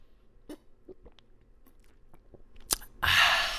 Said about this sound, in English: Hang on 1 second. I just got to get another sip from my delicious refreshment.